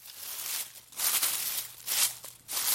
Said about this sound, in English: Höstlöv som prasslar eller möjligen löv som faller.